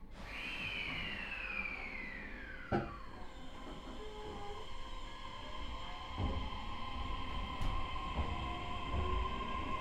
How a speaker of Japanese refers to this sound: お待たせいたしました。まもなく発車いたします。閉まるドアにご注意ください。 The train will depart soon. Please be careful of the closing doors.